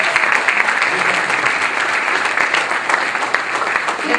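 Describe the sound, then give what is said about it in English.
A church audience applauds its ushers, greeters and volunteers, a dense wash of many hands clapping at once, loud and sustained throughout with no speech over it. “I want you to give them a big, come and give them a big round of applause.”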